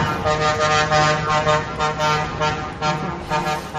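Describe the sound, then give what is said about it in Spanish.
A loud, continuous blare of many truck air horns honking together, layered sustained tones pulsing over a low rumble of heavy engines, from a protest convoy of trucks and trailers from all over Spain going from Paseo de la Castellana to Cibeles in Madrid, against a ban on wild animals in shows. “Este es el sonido, Marta, de esa manifestación, con esos camiones, con esos trailers.”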